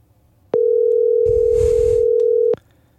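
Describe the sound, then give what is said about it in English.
A steady, loud single-pitch telephone dial tone hums for about two seconds as a phone call is placed, starting and stopping abruptly, with a brief burst of muffled rustling noise partway through. “I'm going to make a phone call right now.”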